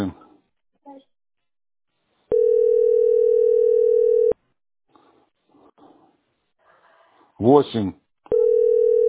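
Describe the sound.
A steady, loud telephone dial tone hums at one unchanging pitch for about two seconds, stops, then returns at the end, as someone is told to dial a number beginning with 8. Faint voices and a short, bright vocal cry come in between.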